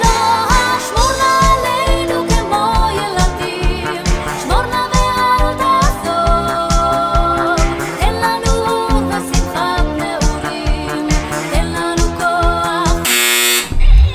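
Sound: quiz game buzzer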